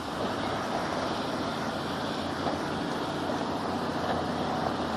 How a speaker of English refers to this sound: Oh, there's another noisy truck. I wonder what it is with noisy trucks this morning.